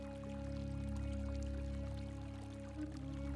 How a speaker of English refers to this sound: A warm, soothing feeling running through your tail, legs and coat, while you listen to the relaxing sound of the waterfall.